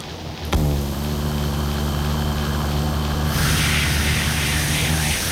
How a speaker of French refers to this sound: Entendez-vous le courant faire vrombir les fils de cuivre?